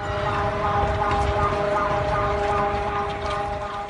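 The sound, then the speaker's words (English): A steady, loud seismic alert siren in Mexico, sounding before an earthquake's shaking began to warn citizens to take cover, holds a sustained wailing tone over a rumbling, noisy background, continuing without a break, like an outdoor public warning system; from an Alerta Chiapas video. “The seismic alert blared before shaking began, and it warned citizens to take cover, earthquake on the way.”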